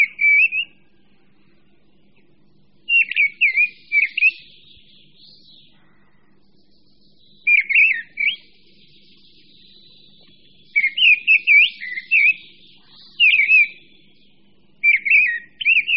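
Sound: mistle thrush song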